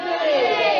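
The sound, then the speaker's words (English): A church audience shouts the word "Unity" together in unison after a reading of Psalm 133, many voices blending into one loud, brief burst that holds steady for under a second. “Scream it out.”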